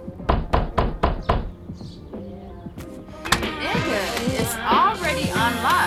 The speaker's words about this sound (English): Why you beating on the motherfucking door like you the police or something?